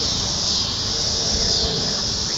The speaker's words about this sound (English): I just want to have the cicada sound for a few seconds.